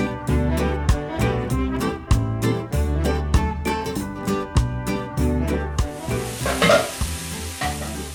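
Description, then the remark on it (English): Rhythmic music with a steady beat plays for several seconds, then gives way to the crackling hiss of tamales sizzling in a frying pan in a Guatemalan cook's kitchen. “That's the sound of tamales sizzling in a pan.”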